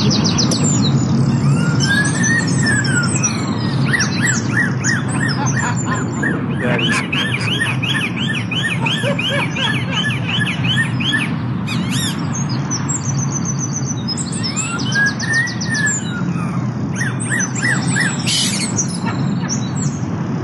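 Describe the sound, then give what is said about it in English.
Crows living in trees outside a police station in the UK mimic a police siren with rising and falling wails, mixed with rapid chirps and squawks, fairly loud over a constant low background rumble. “The crows have learned to mimic police sirens, and it's driving the cops nuts.”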